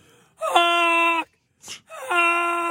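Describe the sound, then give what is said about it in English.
Two long, nasal honking calls from geese flying in the air, each held for nearly a second on a steady mid pitch, separated by a quick breathy intake. Loud and alone, with no other sounds around them. “They're honking in the air.”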